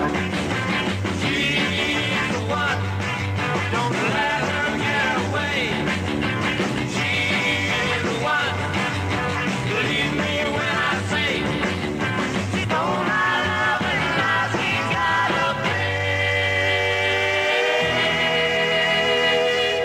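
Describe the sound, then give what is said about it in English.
A 1960s pop rock record plays at full volume, with a driving beat, bright guitars and sung vocals that continue steadily for the whole stretch, no talking over it. “… with …, a big national hit all across the country.”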